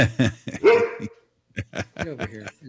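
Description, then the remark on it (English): A dog barks and yips in a quick series of sharp, voiced barks, with a brief pause midway before another burst of barking. “It's hard to get them to stop once they get started.”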